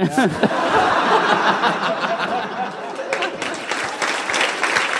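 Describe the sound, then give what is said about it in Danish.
A burst of steady, dense clapping from a group, fairly loud, lasting several seconds with scattered chuckles and laughter mixed in. “Du har ingen idé om, hvor ondt det gør, hvor meget jeg har insisteret på den mos-joke, og så er det dig, der får klappet på den til sit.”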